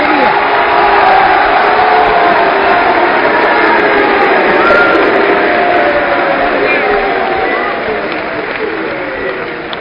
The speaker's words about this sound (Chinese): 接下来，观众朋友，让我们用热烈的掌声，有请郭德纲、于谦为大家表演相声《快乐传奇》。